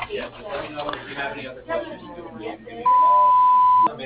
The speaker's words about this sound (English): To send a fax, start transmission now. To leave a message, speak after the beep.